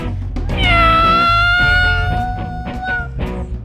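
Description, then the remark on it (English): A long, drawn-out cat meow rises and sustains for about three seconds, loud, over a steady thumping musical beat. “Chase the cat, cause I know where I'm at. Wanna chase the cat, cause it's hella fat. Roof, roof, roof. Meow, yeah, yeah.”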